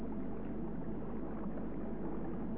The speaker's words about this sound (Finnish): Virtaava vesi huutoo kaikki ajatuksesi pois mielestäsi.